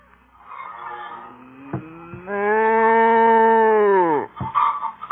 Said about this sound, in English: Stand still, cow, will you?